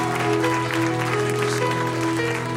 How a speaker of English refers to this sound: Come on, let's give Jesus a cheer as we hand back the pastor.